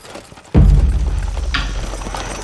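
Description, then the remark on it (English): After a quiet start, a stagecoach's team of horses abruptly sets off as the driver slaps the reins against their backs, their hooves drumming in a dense, rapid clatter over a heavy low rumble that keeps going steadily and loudly. “Hanrahan slapped the reins against the backs of the team.”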